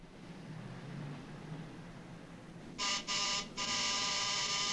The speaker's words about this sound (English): A man crosses a street and enters a building. He climbs steps to the door and rings the bell.